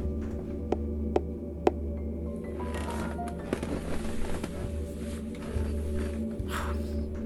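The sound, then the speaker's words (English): Three sharp, hollow knocks sound at uneven intervals over a steady low hum, followed by a stretch of fainter scattered taps and rustling. No one speaks. “That knocking sound.”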